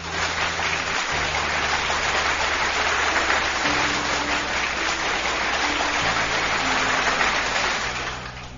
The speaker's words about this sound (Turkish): Kocaman bir alkış gelsin sana.